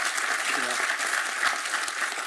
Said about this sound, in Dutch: Ja, en na dit warme applaus ben jij...